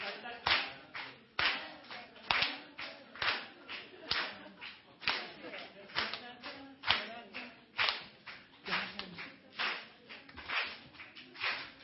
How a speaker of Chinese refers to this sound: 再给他们掌声鼓励，谢谢你们，谢谢，请回座，谢谢。